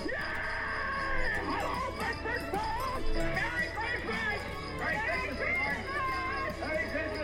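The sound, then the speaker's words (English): A man in a 1946 American Christmas film lets out excited, joyful shouts amid a busy tangle of other voices and commotion, loud and continuous over several seconds with a faint dog-like yelp mixed in. “And I believe that scream, when he goes, yes, it's like, good, I just found my car that I got into a drunk driving accident with into a tree.”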